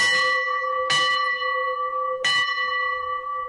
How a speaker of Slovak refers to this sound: A je možné zazvoniť na tento zvon aj teraz? Samozrejme, každý, kto je duševne presvedčený o svojej viere, môže cez tú bránu prejsť a zazvoniť.